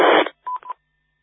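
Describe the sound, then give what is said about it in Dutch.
A short hiss of static cuts off, followed by two quick telephone dialing tones as a radio operator dials in via EchoLink, each a brief steady beep of moderate loudness, with no voices. “Maar, nee hoor, ik bel er gewoon even netjes in.”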